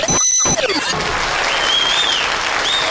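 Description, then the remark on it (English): An audience claps and cheers loudly after a song, a dense, steady wash of applause with a few whoops rising above it, with no one speaking. “Oh, they're just clapping and cheering and, oh, they love Isn't that fabulous?”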